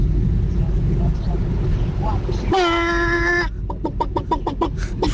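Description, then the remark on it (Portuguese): A chicken lets out a drawn-out squawk, then clucks in a quick, evenly spaced run of about seven sharp notes, loud over a steady low rumble. “Forte, olha, boa galinha.”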